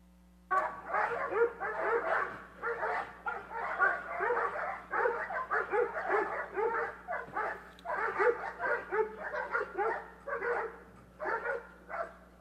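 A dog barks continuously in rapid, overlapping yaps and yips for several seconds, loud, over a faint steady electrical hum.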